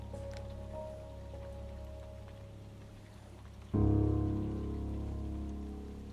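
Steady rain patters continuously at a moderate, even level, and a low, sustained droning tone swells in about halfway through and hums beneath the downpour.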